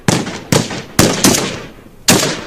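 Five loud, sharp gunshots ring out in an irregular burst on a street outside a café-restaurant in Manhattan, New York, each crack trailing off in a short echoing decay, with no voices present.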